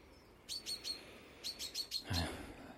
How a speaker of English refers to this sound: Alarm bells in the garden, but there are no alarms. There's nothing going on. Just the birdie in a wee panic mode because Mr. Blackbird is spending most of his time feeding his youngsters.